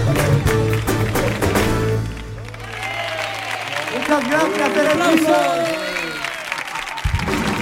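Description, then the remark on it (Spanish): An audience bursts into loud, sustained clapping for a band as its music cuts off, with whoops and cheering voices rising over the dense patter of hands for several seconds. “¡Aplausos! Pedazo de banda, ole, un aplauso para ellos.”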